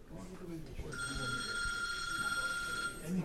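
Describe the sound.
A telephone bell rings steadily for a couple of seconds, a bright sustained trill at a family home on Hamilton Street in Dorchester as callers offer condolences, with friends and family talking in hushed voices in the background.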